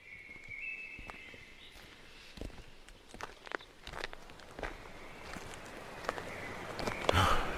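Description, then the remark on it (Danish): Footsteps crunch along at an irregular walking pace as people walk toward a waterfall, a series of short scuffing steps over a steady soft background hiss, growing a little louder toward the end. No one speaks. “Yes, jamen så skal vi jo vel bare begynde at gå”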